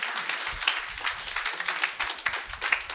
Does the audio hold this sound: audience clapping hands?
yes